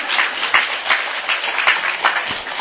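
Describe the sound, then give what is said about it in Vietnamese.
A crowd claps steadily for a few seconds, a dense, even patter of many hands with no voices, full throughout. “cho tràng pháo tay, tuổi trẻ tài cao.”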